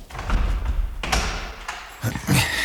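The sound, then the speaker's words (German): Several knocks on an office door, irregularly spaced and moderately loud, over a steady low background hum with no one speaking. “Oder er telefoniert und hat das Klopfen nicht gehört.”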